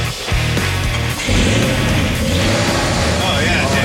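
A 1968 pickup truck's 350 V8 engine runs, a loud, steady low rumble with throbbing harmonics that rises slightly in revs partway through and holds for a few seconds.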